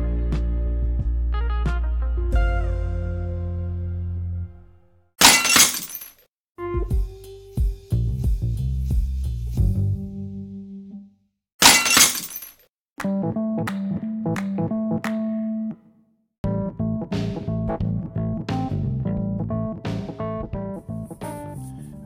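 Two sharp bursts of glass breaking and shattering ring out a few seconds apart, set among loud, sustained melodic tones that play throughout with short pauses.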